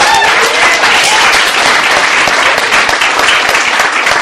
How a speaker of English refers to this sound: But with that, I just want to know, basically, how many people here love good music? By a round of applause. Yeah.